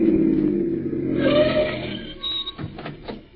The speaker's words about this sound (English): Listen, here comes another car. Flag them, will you? You don't have to flag them. They're stopping.